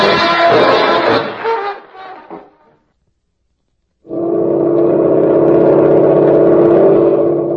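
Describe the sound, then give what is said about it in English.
A loud, rough engine roar fades out into a brief silence, then the motor of a new Navy boat returns as a steady, low-pitched drone that holds evenly to the end. The boat is coming in from a high-speed trial run and edging up to a mooring. “Coming in from a high-speed trial run, a new Navy boat edges gracefully up to a mooring.”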